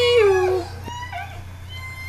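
Orca calls recorded underwater: one loud, harmonic call slides downward and stops, then fainter squeaky whistles follow, all over a steady low mechanical hum.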